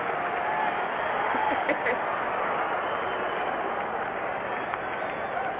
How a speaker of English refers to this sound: We got the stadium crowd rooting for you.